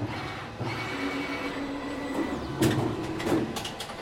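A textile printer printing a t-shirt runs steadily with a constant mechanical hum and whir, punctuated by a few sharper clicks and clacks from the moving print head near the end. No one speaks.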